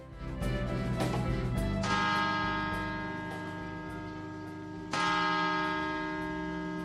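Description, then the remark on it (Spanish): The bells of the Puerta del Sol clock tower chime loudly at eight o'clock, heard live, two strong strikes about three seconds apart, each ringing out with a long, shimmering decay that overlaps the next. No one speaks. “En directo, acaban de escuchar las campanadas del reloj de la Puerta del Sol a las 8”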